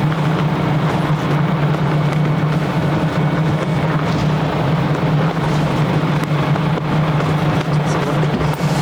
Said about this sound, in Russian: Пойдемте в автобус. Автобус.